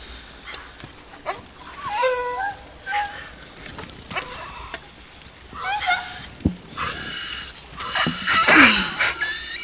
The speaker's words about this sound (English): And he actually gets attacked by a group of dogs, and someone comes along to save him.